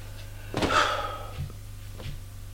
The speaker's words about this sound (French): Allez venir. Ouvrir les portes de son placard. De son armoire. Soupir. Ferme la porte.